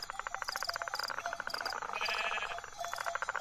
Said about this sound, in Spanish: Los rebaños vuelven a sus apriscos y el tindón de los cencerros se mezcla con un intenso canto de grillos o cigarras, un intenso gri, gri, gri.